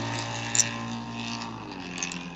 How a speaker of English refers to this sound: Oh, sorry for not being, muted. We heard the traffic, but hey, that's cool.